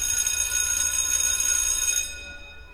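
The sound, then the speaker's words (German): A shrill electric school bell rings steadily for about two seconds, bright and metallic with dense high overtones, then cuts off and leaves a short fading ring. It is the school bell for the fourth lesson. No one speaks. “Und als wärst du prophetisch, da schrillt auch schon die Glocke zur vierten Stunde.”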